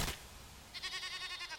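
goats bleating

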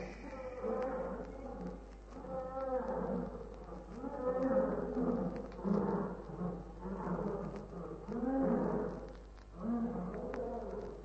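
lions roaring

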